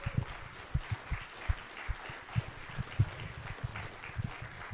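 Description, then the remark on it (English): A crowd applauds steadily, many hands clapping in a dense, irregular patter that carries on for several seconds, in response to the announcement of a major distribution deal with Cointaker. “So, yeah, could we have a round of applause for that, please?”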